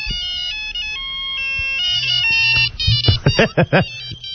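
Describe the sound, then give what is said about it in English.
A mobile phone ringtone, played from the phone's ring type setting, plays a bright, busy electronic melody of steady high tones, then breaks into quick rising and falling chirps toward the end. A low hum runs underneath. “Ring type. Yes. Okay, here you go.”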